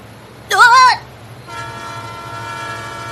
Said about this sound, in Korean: 하필 그때 열차 들어오는 소리가 들렸다.